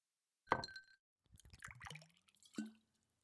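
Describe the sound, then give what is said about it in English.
A glass clinks, then liquid gurgles and splashes as a drink is poured, ending with another light clink of glass. Fairly quiet, with no talking. “So, pour me something.”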